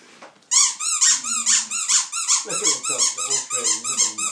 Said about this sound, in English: Look at Dave playing with his squeaky toy.